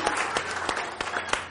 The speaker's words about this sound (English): Let's give him a hand clap this morning. Hallelujah.